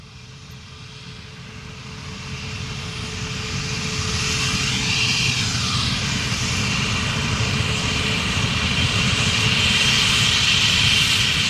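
The engines of a Concorde supersonic jet airliner roar through a takeoff from runway 32 at Toulouse airport, France, on its first test flight on 2 March 1969, the broad rumbling thunder swelling louder over the first few seconds and then holding steady and powerful, with a sweeping whoosh as it passes.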